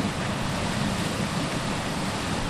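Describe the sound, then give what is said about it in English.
A steady, loud roar of water gushing continuously from a 40-inch pipe at a water district near Bakersfield, close by, with no pauses or changes and no voices. “standing next to a gushing 40-inch pipe.”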